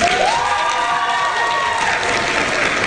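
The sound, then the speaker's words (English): A steady wash of applause and cheering from a group in a meeting room after a motion passes fills the whole clip, with a rising whoop near the start and dense clapping that holds at an even loudness throughout. “Some applause in the room last night.”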